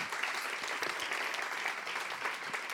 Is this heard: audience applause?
yes